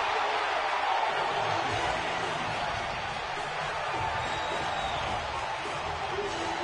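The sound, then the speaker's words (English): A large baseball stadium crowd hums and murmurs in a steady wash of noise, with no single voice standing out, as heard on the Chicago White Sox radio broadcast. “You're hearing the crowd ambiance. You're hearing what radio listeners heard who were listening to the White Sox broadcast.”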